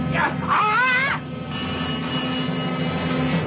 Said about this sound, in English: The nearby phone rings.